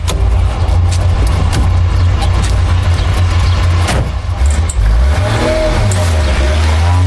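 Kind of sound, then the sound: vehicle, car engine running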